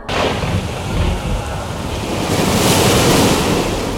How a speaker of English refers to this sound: The storm. It has raged every night I have been stationed here. Night after night.